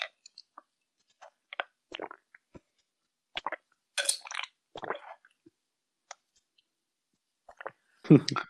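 gulping water

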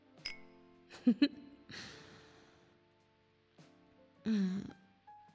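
glasses clinking

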